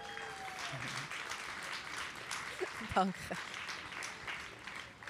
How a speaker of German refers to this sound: Herzlich willkommen, 91-fache Schweizer Internationale. Applaus bitte.